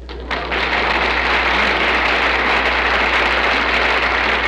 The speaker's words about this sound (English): Until you come next year to greet us, I say farewell. The end. Applause.